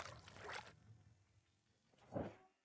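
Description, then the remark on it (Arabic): Water trickles and splashes over a jeep's engine to cool it in hot weather, in two short bursts separated by a quiet pause, fairly soft, with no voices. “سوف يبرد المحرك بالماء.”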